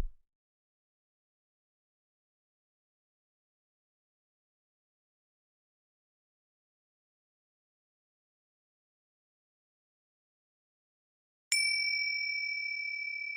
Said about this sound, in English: So once again, where was your mind when the gong rang?